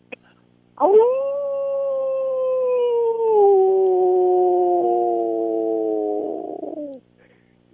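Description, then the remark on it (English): A person imitates a wolf howl with one long, loud wail held for about six seconds, its pitch sagging slowly downward before it cuts off, with no talking around it. “How do you do a wolf call? Can you do a wolf call for me?”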